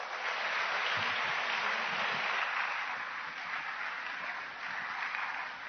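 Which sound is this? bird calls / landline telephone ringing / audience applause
audience applause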